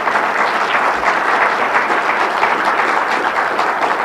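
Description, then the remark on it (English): A church audience in a small city in Montana applauding a preacher: steady, dense clapping from many hands, loud and sustained for the whole stretch with no voices standing out. “And these people that are online and watching and listening, they appreciate not just this preacher preaching truth, they appreciate the people in this congregation applauding truth from their hearts.”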